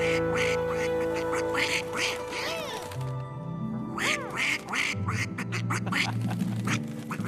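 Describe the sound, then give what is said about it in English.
Piccadilly's grumpy duck at a theater quacks repeatedly in quick, expressive bursts, loudly, greeting people as they come in, over a steady background of sustained musical tones. “At the theater, Piccadilly's grumpy duck looks up in surprise as Ted, George, and Kayla come in. He greets them all.”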